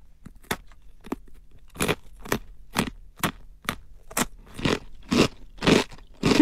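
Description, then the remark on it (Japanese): Crisp, repeated crunches of someone biting and chewing Calbee Jagariko potato sticks, a premium salad-flavor version made with 100% Hokkaido Danshaku potatoes, about a dozen sharp bites in an uneven rhythm that grow slightly louder and fuller toward the end, with no talking. “こちらの方が12月3日に発売しまして、カルビーで初めて男爵芋を 100% 使った上質なじゃがりこっていう、 おー、はい、北海道産の男爵芋使用”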